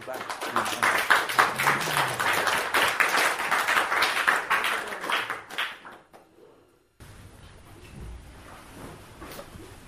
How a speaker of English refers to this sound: So I request all of you to join your hands and give a roaring applause.